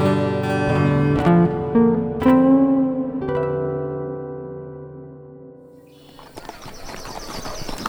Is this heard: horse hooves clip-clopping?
yes